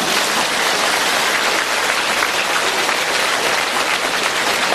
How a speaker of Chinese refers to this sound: 鼓掌。